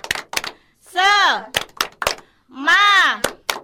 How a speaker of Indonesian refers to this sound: Tepuk semangat.